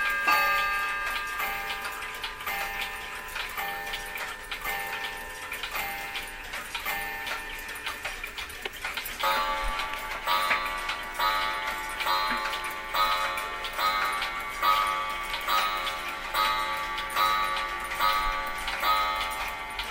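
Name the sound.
clock ticking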